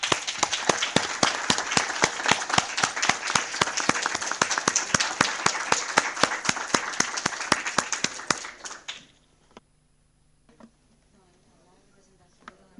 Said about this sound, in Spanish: Así que tratar, como están haciendo, con una gran fuerza, con un gran esfuerzo, de llegar a la clave, o a, para mí, al corazón, al núcleo de la verdadera transformación del Estado, merece de nuestra parte un gran aplauso.